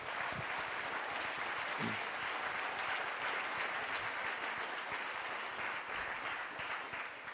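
At a conference, steady, sustained applause from an audience for the organizers, a dense wash of many hands clapping at an even, fairly loud level throughout, with no voices standing out.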